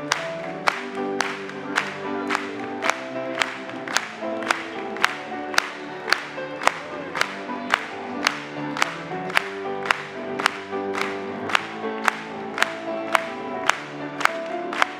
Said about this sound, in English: Let's clap it to him.